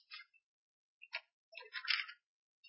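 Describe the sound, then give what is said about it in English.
Soft, crisp rustles of thin bible paper pages being flipped to find a passage, a few quick papery swishes with short pauses between them, fairly quiet with no talking. “Takes a little bit of this thin paper to find a place.”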